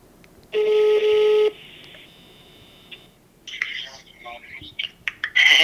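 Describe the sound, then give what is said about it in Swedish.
Loud electronic telephone tones sound in a steady burst as a call is placed to the speaker's mother, followed by a softer sustained line tone as the call connects; brief voices come on the line near the end. “Ringer jag olägligt?”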